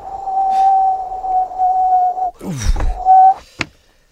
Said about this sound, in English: Oh, it's just... It's brass monkeys out there. Oh, yes, I can hear the wind. Let's shut that window.